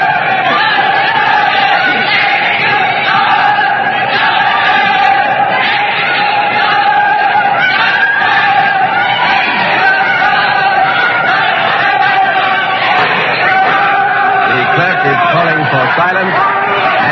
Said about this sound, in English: The words are justice, execution, justice, execution. The shouts for and against the king are crashing here in this courtroom. Let's listen to them.